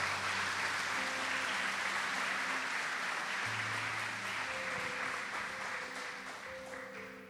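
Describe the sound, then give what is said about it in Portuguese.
A church audience applauds the Lord steadily for several seconds, a dense wash of clapping with low sustained musical tones underneath, slowly fading toward the end. “Você que crê, recebe, diga amém e aplauda o Senhor.”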